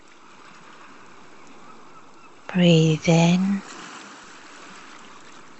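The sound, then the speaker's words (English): A soft, continuous wash of ocean waves runs steadily in the background, with a calm voice briefly guiding a breathing relaxation over it midway through. “Listen to the waves.”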